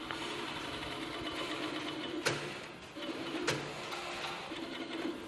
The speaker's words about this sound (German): Das sieht jetzt erstmal so nicht überhaupt nach Schuhproduktion aus, weil hier so viele Nähmaschinen stehen. Ja, das Obermaterial wird halt genäht. Ne? Man nennt das hier Steppen.